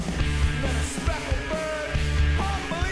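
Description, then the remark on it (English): A loud recorded post-punk screamo song driven by busy, punchy drumming with frequent hits and fills, a raw, shouted vocal straining over a thick bass-heavy band. “That drummer's really good.”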